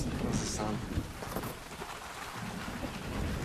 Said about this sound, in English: I also want to acknowledge the rain and the thunder. It's so beautiful. It's a beautiful blessing.